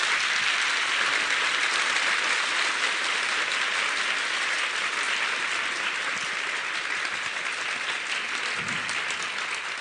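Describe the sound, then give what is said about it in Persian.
An audience claps together in rhythm to keep time for three verses of a devotional song: a dense, steady wall of hand claps that holds at a loud, even level for about ten seconds with no voices. “یه بند نه، هر کی آماده است سه بند سرود گوش بده کف مرتب قشنگ بده.”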